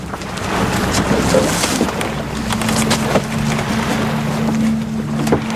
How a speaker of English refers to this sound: Let's get a little of the sound of it here from Michael's work, Vikings for the History Channel, a Viking ship moving through the water.